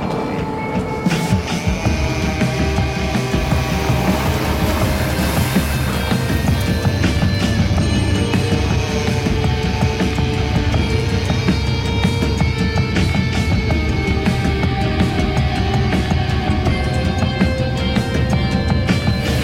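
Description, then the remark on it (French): A car drives along the road on a roughly one-hour trip to the Landes, France, with a loud, steady rumble of engine and tyre noise that holds for the whole stretch, with no voices. “On va récupérer la voiture et puis on va faire cette route-là.”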